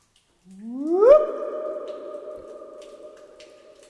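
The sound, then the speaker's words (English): A low, resonant tone swoops upward and then holds steady, ringing on with rich overtones and a long, slowly fading reverberation inside Topless Dome, a large echoing cave dome, recorded on a caving trip. No one speaks. “I was able to record some really cool audio in Topless Dome.”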